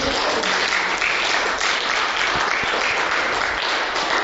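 Steady applause from a crowd at a church service, a dense wash of many hands clapping at an even, loud level for several seconds with no voices standing out.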